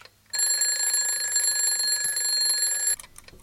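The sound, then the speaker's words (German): An alarm clock rings loudly and steadily for about two and a half seconds, a bright, shrill electronic tone that starts abruptly and cuts off just as suddenly, with no one speaking. “Irgendwas tickt noch so.”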